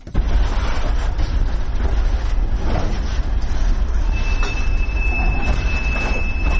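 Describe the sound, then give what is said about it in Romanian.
A train rolls slowly through a rail depot in Chișinău with a steady, loud rumble of wheels on track. Partway through, a thin, high metallic wheel squeal starts and holds to the end. “Trenurile modernizate în România stau cu minți pe peronul depoului din Chișinău, printre garniturile vechi, așteptându-și rândul să fie repuse în mișcare.”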